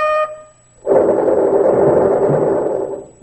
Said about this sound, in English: Oui. Mon bugler, sound the charge for the tanks.